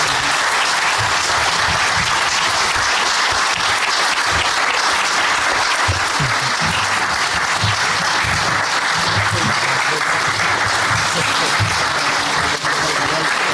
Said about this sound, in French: Je vous invite à donner une bonne main d'applaudissements aux candidats qui ont participé à l'exercice de ce soir.